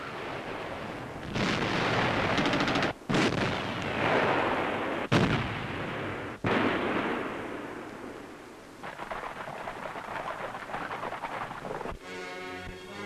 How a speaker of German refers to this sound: Artillerie bricht feindlichen Widerstand auf dem Vormarsch am Jösensee entlang auf Hamar.